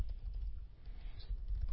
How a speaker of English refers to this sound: I can hear you typing over there. That's what I was talking about.